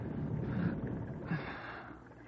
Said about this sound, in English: stop groaning in your sleep. I ain't groaning. Yes, you are. Cut it out.